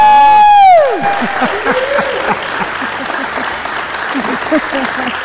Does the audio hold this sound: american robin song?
no